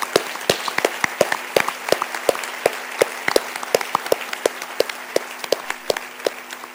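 Steady applause from the audience at the Sitges film festival in tribute to the late actor Robert Foster, dense overlapping claps with sharper individual hand slaps standing out in an uneven rhythm, sustained at a fairly loud level with no voices.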